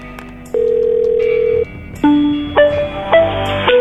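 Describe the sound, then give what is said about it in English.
A telephone handset with a steady dial tone that cuts off, followed by a quick string of overlapping dialing beeps as a regular phone number is punched in, clear with no one talking. “That was just a regular phone number I dialed.”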